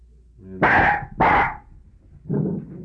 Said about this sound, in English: There goes the dog.